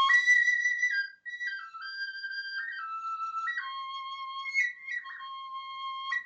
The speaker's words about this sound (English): Whistles are another instrument often used in Native American music. Listen to this example of a whistle made from eagle bone.